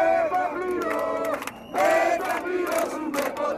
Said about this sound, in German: Denselben Vorwurf schreien die Demonstranten weiter vorn am Absperrzaun direkt beim Parlament heraus. Wir werden nichts bezahlen, rufen sie. Wir haben die Schulden nicht gemacht.